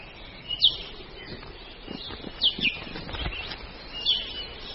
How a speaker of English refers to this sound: This bird's beak is perfect for sipping nectar from tubular flowers. It's an i'iwi, a long-billed honey creeper only found in Hawaii.